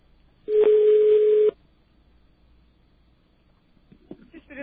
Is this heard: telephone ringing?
yes